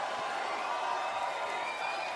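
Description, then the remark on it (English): A crowd of many voices, an audience yelling song requests at a performer, shouts at once in a dense, steady jumble, with scattered whoops rising above the din and no single voice standing out clearly. “What do you want to hear? Keep yelling things.”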